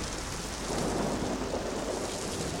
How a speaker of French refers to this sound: Et heureusement que j'ai ce parapluie. Je vais attendre la fin de cette tempête, même si je dois y passer la nuit.